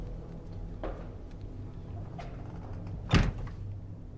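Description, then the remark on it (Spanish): A door shuts with a single solid thud near the end, preceded by a softer bump earlier and low ambient rumble throughout; no one speaks. “Ya cierra la puerta.”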